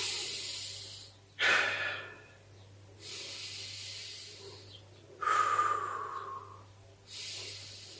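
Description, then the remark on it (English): Slow, deep breaths drawn in and let out, each inhale and exhale a loud airy rush with brief pauses between, about four or five breath phases over several seconds. “Take some deep breaths.”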